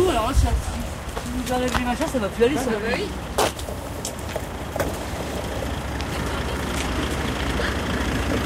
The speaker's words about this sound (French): Alors voilà la voiture. Bon, je t'aide alors. Allez. Donc, on sort du hangar.